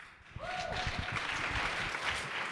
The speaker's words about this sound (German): Da gibt's Applaus.